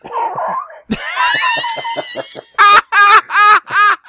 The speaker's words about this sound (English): I had to blow my nose.